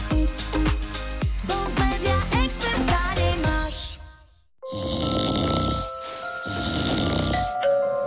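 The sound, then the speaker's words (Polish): A short musical jingle plays, then a man snores loudly, with two long, rasping snores following one another. No one speaks. “Dochodzą mnie słuchy, że pani mąż chrapie jak niedźwiedź.”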